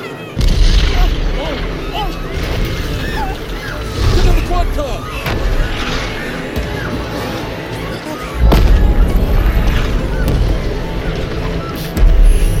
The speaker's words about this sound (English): Some kind of meteor. Look at this. There's more incoming.